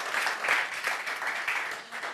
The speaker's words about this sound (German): Der Applaus ist immer gerechtfertigt.